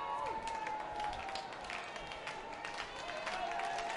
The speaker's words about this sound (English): Crowd beginning to speak up just a tad.